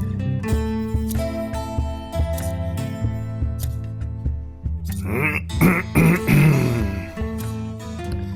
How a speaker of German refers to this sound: Räuspere ich mich.